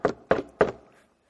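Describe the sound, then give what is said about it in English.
Three firm knocks on the wooden front door of a house, evenly spaced about a third of a second apart, fairly loud, with a short hollow resonance fading after the last one. “My dog, who's splayed out on the couch, starts to attack the door and bark.”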